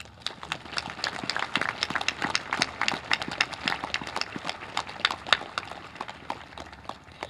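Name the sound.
round of applause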